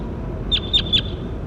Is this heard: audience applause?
no